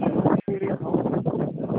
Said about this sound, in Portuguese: Oi, não entendi. Tá ventando.